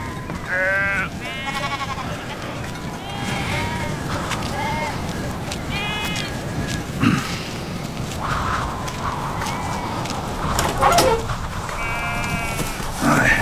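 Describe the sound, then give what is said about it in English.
A lamb that needs a hand bleats repeatedly in wavering, high cries amid a busy farmyard din of a flock of sheep, shuffling movement and a few voices. “The lamb needs a hand.”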